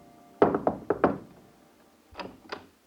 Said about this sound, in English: And the very next morning, I knocked at their door again.